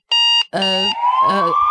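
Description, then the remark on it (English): A loud siren-like wail: a short steady tone breaks off, then a longer call rises slowly in pitch, with a voice-like quality suggesting someone imitating a siren. “A siren.”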